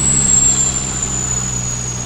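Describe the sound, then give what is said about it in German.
A loud, steady mechanical roar of a helicopter's rotors and engine as it sinks lower and lower and touches down on its skids, whipping up sand and brush, with a droning low hum and a thin high whine, continuous throughout with no voices. “Geräusche wurden unerträglich laut und der Hubschrauber sank immer tiefer.”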